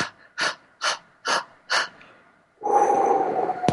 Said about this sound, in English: And you blow out. You take pant breaths, like you're panting like a dog.